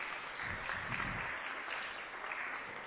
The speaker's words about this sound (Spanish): ¡Fuertes los aplausos!